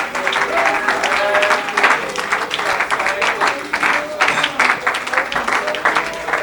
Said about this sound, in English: Oh, come on. Can somebody just clap your hands and raise your voice?